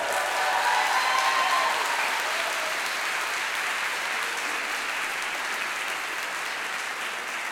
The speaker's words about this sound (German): Ja, und das war die Sailor Moon Showgruppe Tanze nicht synchron. Nochmal einen ganz super riesengroßen Applaus, bitte.